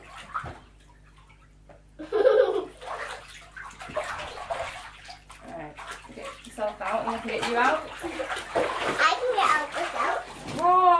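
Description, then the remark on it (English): A child splashes and sloshes water in a bathtub with repeated messy bursts, soaking part of the bathroom floor, while a child's voice and other talk carry on over the watery commotion. “Soaked that bit of the bathroom. You have to be more careful in the water.”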